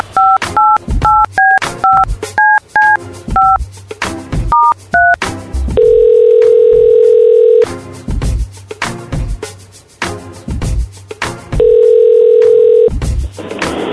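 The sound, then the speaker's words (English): A rapid string of about ten phone keypad beeps dials a call on the Roz and Mocha Show on Kiss 92.5, followed by two long, steady outgoing ringback tones, with rhythmic background music thumping underneath throughout. “I want to make a phone call real quick.”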